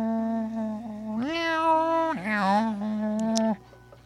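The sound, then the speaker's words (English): A person imitates a cat's meow, a long drawn-out vocal mew followed by a second rising one, sustained and fairly loud, with no other sounds around. “But I'll just sit here the whole time. Meow, meow.”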